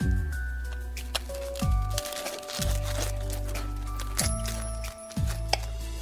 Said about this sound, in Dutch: Ze snijden dus de kip, dat hoor je. Ze snijden de groentes. Als het in het olie gegoten wordt, hoor je het bubbelen. En er wordt niks gezegd.